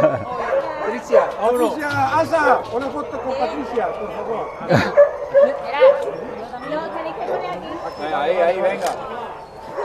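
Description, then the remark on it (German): Several dogs bark and yip in a busy, overlapping chorus, with occasional whimpers mixed in, fairly loud, while people's voices murmur underneath as the dogs' names are called and each dog is checked with a microchip reader. “Namen von Hunden werden aufgerufen. Mit dem Chip-Lesegerät wird noch einmal überprüft, ob es der richtige Hund ist.”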